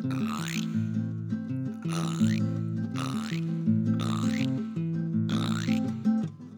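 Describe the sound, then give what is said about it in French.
A person imitates a frog with deep, throaty croaks, about five rough, rhythmic bursts over a steady low drone, fairly loud and with no other talking. “Une grenouille dit :”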